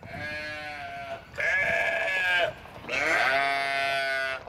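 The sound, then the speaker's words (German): Three drawn-out sheep bleats follow one another closely, loud, each a wavering, nasal cry with rich harmonics, the last two longest and strongest, from sheep on a drought-stricken sheep and wheat farm 250 km northwest of Canberra, Australia, in the midday sun. No one speaks. “Ein paar Schafe dösen lethargisch in der Mittagssonne. Zum Blöken ist es den meisten zu heiß.”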